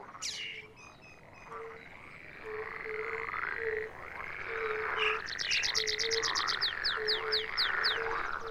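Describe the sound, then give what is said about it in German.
A dense chorus of frogs and toads croaking, with overlapping repeated calls and rhythmic trills building in the second half, a steady low pulsing note underneath. No one speaks. “Da sind sie wieder, die Frosch- und Krötenungeheuer.”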